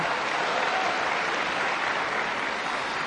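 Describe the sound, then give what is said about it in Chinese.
A steady wash of audience applause at a xiangsheng (crosstalk comedy) performance, many hands clapping at once in a dense, even crackle that holds at a constant level for a few seconds with no voices over it. “哎， 如果说您这个掌声再热烈点会更好，谢谢。”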